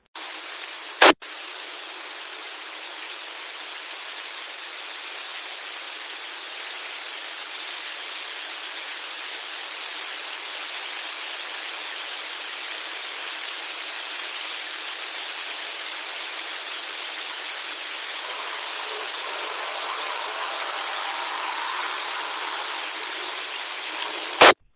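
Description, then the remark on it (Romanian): A steady hiss of radio static fills an amateur radio repeater channel for about twenty-three seconds, band-limited and unbroken, as someone opens the repeater without modulation, with sharp clicks at the start and end as the carrier opens and drops. No voice comes through. “Păi a fost cineva, doar a reușit să deschidă repetorul, dar fără modulație.”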